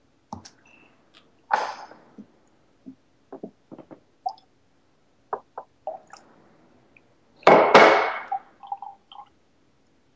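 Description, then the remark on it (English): Water is poured into a glass of blended whisky in a short splashy burst near the end, after a series of small clinks, taps and handling noises. No one speaks. “And go ahead and add some water.”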